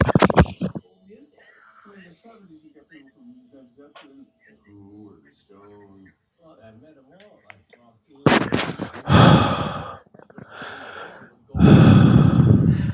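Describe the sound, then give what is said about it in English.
Loud, distorted breaths blast right into a headset microphone, a few heavy huffs at the start and again near the end, with faint quiet talking in between. “He likes breathing in my ear, by the way.”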